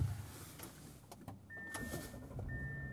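Steady low rumble of a regular gas-powered car, not a Tesla, driving home, heard from inside the cabin, with a few clicks and a thin electronic tone; no one talks.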